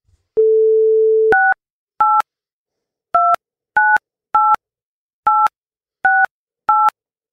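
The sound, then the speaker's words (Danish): A steady telephone dial tone hums for about a second, then eight crisp touch-tone keypad beeps follow one after another at a quick, slightly uneven pace as a call is placed, clear with no voices. “Så vi ringer til en ekspert i satire, nemlig vores kollega, komikerkollega Mikkel Klint Thorius”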